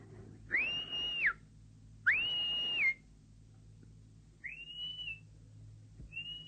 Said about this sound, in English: Who's this? Who's that whistling?